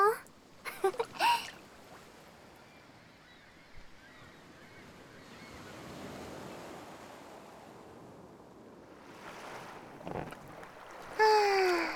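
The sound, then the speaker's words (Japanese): Soft, steady wash of gentle, calm sea water lapping around someone floating on an inflatable ring, with occasional swells; brief voice sounds and splashes break in at the start and end. “はぁ、波穏やかだね。ぷかぷか。”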